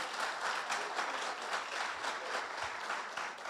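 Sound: audience clapping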